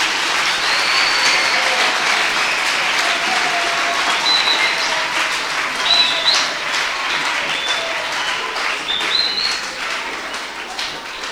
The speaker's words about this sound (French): Have you clapped for him already? Est-ce que vous l'avez déjà applaudi?